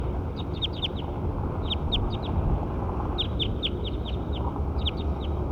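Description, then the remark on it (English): A bird, identified as Bird 7, sings in short bursts of bright, high chirps, four quick bursts with brief gaps, over a steady low rumble of background noise. “Here we go, Bird 7 again. Bird 7. That's him.”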